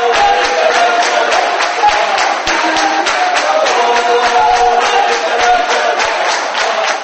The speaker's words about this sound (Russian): Судя по аплодисментам и выкрикам «Браво!», искушенной публике пришлось по душе оригинальное исполнение национальных композиций.